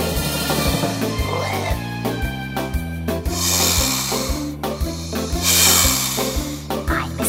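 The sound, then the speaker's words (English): A snake-like hiss rises twice in long, breathy bursts over a bouncy musical accompaniment with a steady, stepping bass line, as part of an animal song. “I'm a snake, and I hiss.”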